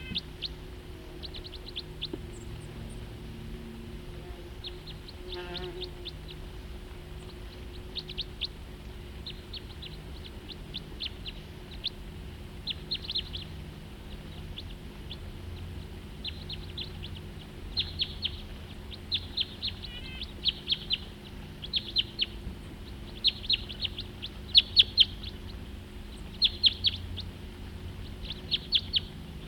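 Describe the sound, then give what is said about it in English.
Two crossbills in the same tree give short, high-pitched chip calls in irregular bursts, the calls growing more frequent and a little louder toward the end, over a low, steady background hum. No one speaks. “Two birds together now, in the same tree. Still there.”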